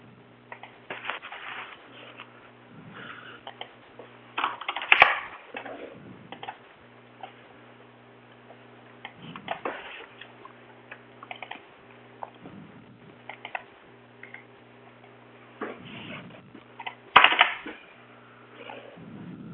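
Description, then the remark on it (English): Irregular typing on a computer keyboard with bursts of rapid clicks and short pauses, a few louder key strikes standing out, over a steady low electrical hum. “Okay, I'm typing something here to myself.”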